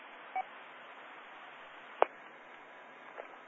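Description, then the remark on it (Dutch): Steady radio static hisses throughout, a thin, band-limited rush of noise, broken by a brief beep near the start and a sharp click midway, with no voices. “Beetje ruis.”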